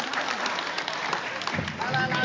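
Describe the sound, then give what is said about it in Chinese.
A group applauds with steady, dense clapping that fills the whole stretch at a fairly even loudness, a few voices mixed into the noise. “好，给大家给他们掌声哈。”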